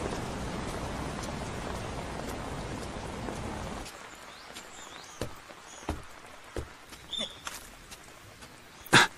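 Steady rain hisses loudly for several seconds, then eases to a quieter patter with scattered, sharp drips splashing close by. Nobody speaks.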